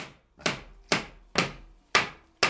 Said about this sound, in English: crouches in his mother's living room with a mallet, hammering together the corners of a massive wooden frame.